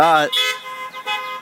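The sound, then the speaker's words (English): Several car horns honked by churchgoers at an Easter service sound together in a steady, overlapping blare, one loud blast at the start and then a sustained chorus of horns. “I think you guys just like honking your horns.”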